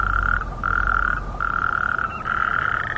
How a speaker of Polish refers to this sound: Godzina 11, wody pełno, tuż przy blokach, jakiś staw. Ale żab coś nie słychać. Chociaż, o! Są, pływają. Tylko coś niechętne są, żeby porechotać o godzinie 11. Przychodzi wieczór, to dopiero tu hałasują.